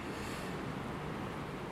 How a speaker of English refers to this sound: It's a wild morning. It's just a spitting of rain, as they say. But the wind, yeah, that's pretty windy.